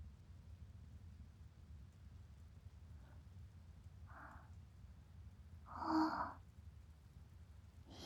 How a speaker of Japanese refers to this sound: 天気だったのに、雨が降り始めたみたいだね。